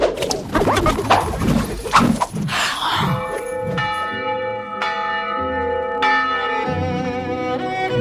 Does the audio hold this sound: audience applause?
no